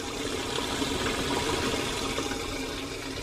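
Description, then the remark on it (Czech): Excess salty brine that formed in the stamped-down cabbage is pumped out of a sauerkraut vat about 3 metres deep, a steady rushing and gurgling of liquid that stays continuous and fairly loud throughout, with no voices. “Teď se odčerpala tak ze zelí, ta přebytečná voda, která tam vznikla, je pryč.”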